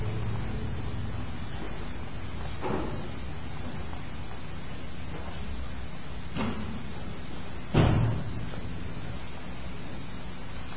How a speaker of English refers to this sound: Would you mind closing the door too, please?